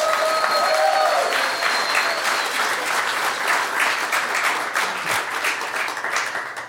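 A crowd applauds steadily for several seconds, a dense wash of many hands clapping with a few faint whistles early on, holding loud throughout and tapering slightly at the end.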